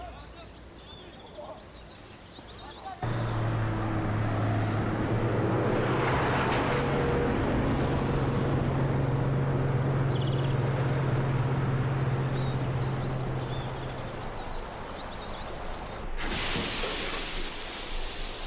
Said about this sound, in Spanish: ¡Han pegado algunos metales uno a otro y a esto lo llaman coche!